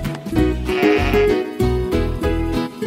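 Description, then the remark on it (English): A sheep bleats several times in close succession, loud, each call a wavering, nasal cry with little pause between them and no voices present. “People use wool to make sweaters, socks, hats, and mittens. Wool keeps us warm in the winter. A baby sheep is called a lamb.”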